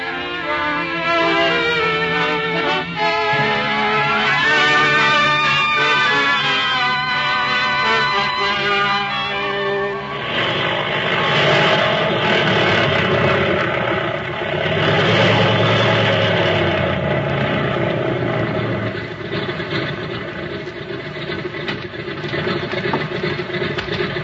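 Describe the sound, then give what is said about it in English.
An airplane engine runs steadily and loudly for the whole stretch, a droning whine at first that swells into a fuller, rougher roar about halfway through, with no voices. “You can board the plane now if you want to.”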